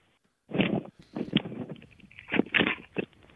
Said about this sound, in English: I can hear you breathing. And rustling around.